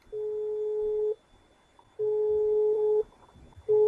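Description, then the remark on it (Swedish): A phone ringing tone played through a speakerphone as a call is placed: a steady, slightly buzzy beep lasting about a second, repeated three times with short pauses between, heard alone without talking. “Kan man ringa så här?”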